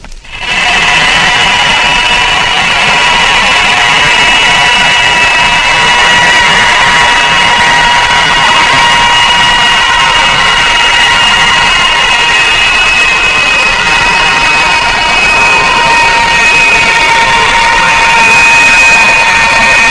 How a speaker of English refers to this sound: Next, the sound of a PT boat. The noise is largely from the gear reduction.